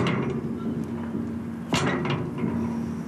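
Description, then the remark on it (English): A single sharp metallic clunk of a heavy metal door lock rings out against a steady low hum, echoing off tall stone walls of limestone and sandstone, its sound trailing off in a short echoing decay. “And you can hear the metal lock of the door echoing against the stone.”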